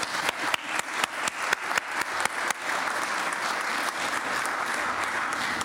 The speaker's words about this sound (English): Can we give a round of applause to our speakers?